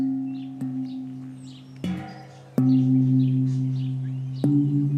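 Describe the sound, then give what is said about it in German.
A deep gong used to call neighbours to a funeral is struck four times at uneven intervals, each blow ringing out in a low, humming tone that lingers and overlaps the next, while birds chirp faintly in the background. “So klingt der Gong, mit dem die Nachbarn zum Begräbnis gerufen werden.”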